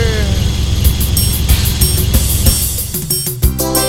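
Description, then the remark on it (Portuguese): An old car engine cranks and sputters, trying to start without catching, with a steady rhythmic churn and repeated bursts, fairly loud throughout. “Eita, que carro velho só dá problema.”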